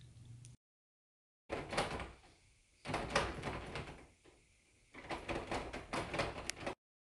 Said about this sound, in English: I locked the door. Oh my god, you have a key.